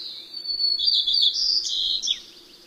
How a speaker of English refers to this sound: Visiting mountain meadows, we hear the stereotypic songs of white-crowned sparrows.